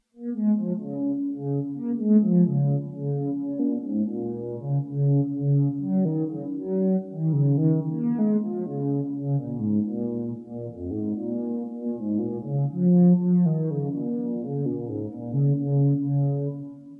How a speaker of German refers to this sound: celloartiger Klang, wobei zusätzlich zum Resonanzfilter des Formant, dessen Frequenz auf ca. 300 Hz eingestellt ist, die Kampffilterfunktion eines nicht modulierten Phasers zur weiteren Timbreformung benutzt wird. Die Kurvenform ist spaced Sägezahn.